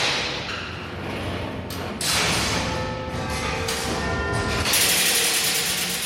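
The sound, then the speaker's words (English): Big Ben's clock tower mechanism nearing the quarter-past-the-hour chimes: wheels and ironwork that lead up to the link room and the quarter bells turn with a steady mechanical rumble and clatter, growing louder after a couple of seconds as a metallic whine with sustained ringing tones joins in. No one speaks. “We're now coming up to the quarter past the hour chimes, with the wheels and the ironwork going round that go up to what we call the link room, and then they go up to the quarter bells upstairs.”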